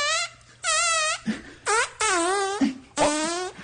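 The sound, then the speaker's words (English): A man farts out a melody while holding his butt up to the microphone: five buzzy, wavering pitched notes in a steady rhythm, fairly loud, with short gaps between them and no talking. “No, that guy's farting that.”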